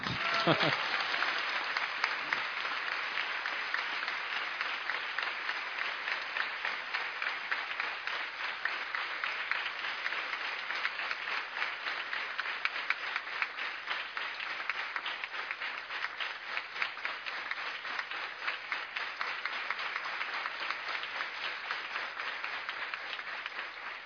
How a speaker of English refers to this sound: So he would be speaking, but his voice isn't working due to the air-conditioned trains. So you give a clap to him also.